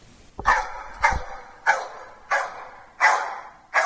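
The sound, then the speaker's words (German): Two dogs bark loudly at Karlsruhe Palace, home of the Badisches Landesmuseum, six sharp barks coming in a steady rhythm about every half second or so, with no voices in between. “Ich glaube, ich muss den beiden Hunden folgen.”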